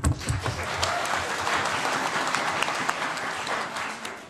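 An audience claps steadily for a new member of a children's municipal council, a dense, even patter of many hands with crisp transient hits spread across the highs, holding a fairly constant loudness before easing slightly at the end.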